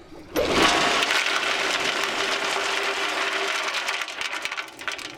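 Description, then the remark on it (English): Bentonite, a super absorbent clay, is dumped from a bentonite trailer down a gas well to plug it and hits the water at the bottom: starting abruptly as a loud, steady, hissing rush with a faint rattle and a thin underlying hum, sustained for several seconds with no voices. “Listen for the bentonite to hit the water at the bottom and we'll dump more.”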